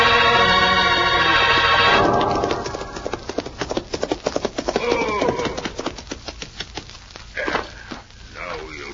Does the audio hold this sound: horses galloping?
yes